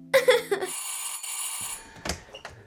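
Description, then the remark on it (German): A doorbell rings with a few quick, bright chiming tones, then a sustained ringing note that lingers and fades, followed by a couple of soft clunks. “Du, ich gehe mal zur Tür. Hörst du?”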